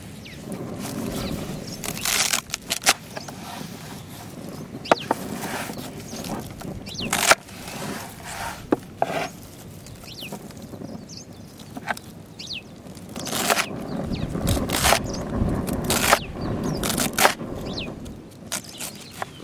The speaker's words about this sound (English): Yep, and then, right now, let's get chopping.